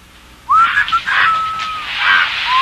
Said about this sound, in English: Stop squawking, you stupid bird.